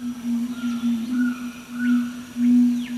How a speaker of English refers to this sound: It's a male red-ruffed fruit crow booming out its display calls. Although black and crow-sized, with a gleaming red chest, the fruit crow is no kin to our crows, but a cousin of South American bellbirds.